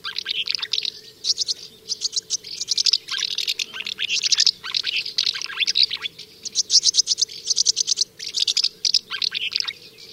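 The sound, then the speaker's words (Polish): Common house martin calls, a steady stream of quick, soft chirps and twitters in rapid bursts, clear over a faint low hum, with no talking. “Oknówka odzywa się podobnie, ale jej głos jest bardziej soczysty niż dymówki.”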